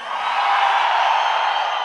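A large crowd of men at a concert, asked by the singer for a loud shout, lets out a loud, sustained shout, a dense roar of many voices that holds steady for about two seconds.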